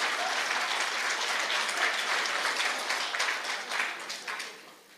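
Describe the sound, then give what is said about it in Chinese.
An audience claps for the master giving the talk, a dense, even patter of many hands that holds for several seconds before gradually tapering off toward the end. No one speaks over it. “这些真的很有平等心，师傅这么赞他们，他们都不给师傅掌声。”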